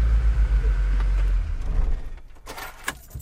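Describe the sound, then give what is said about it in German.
The engine of a bus nicknamed Bubu Silent cranks with a heavy, low churning rumble for about a second and a half, then dies away without catching, followed by a few sharp mechanical clicks and clunks. “Das ist das Geräusch, wenn er nicht anspringt.”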